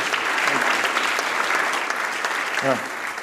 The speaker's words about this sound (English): tithe-paying church members and ministerial staff. We would not be able to go without you. So if you want to, give a round of applause for yourself.